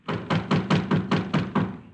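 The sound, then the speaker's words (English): A rapid, even run of about eight knocks on a back door, moderately loud, with no voices, just the steady rapping. “Back door.”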